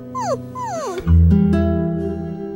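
A small dog whimpers in two high, falling whines, then lets out a louder, lower drawn-out whine that fades. No one speaks.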